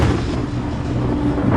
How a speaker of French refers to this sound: Le tonnerre dans le ciel est limpide.